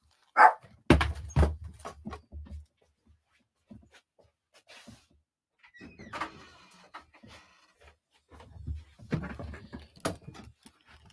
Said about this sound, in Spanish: ¿Qué pasó con el perro? Ah, ahí están ladrando el perro.